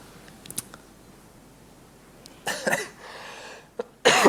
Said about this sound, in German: Jetzt übermannt mich der Husten, aber es sieht auch nicht aus, als wären noch Fragen da.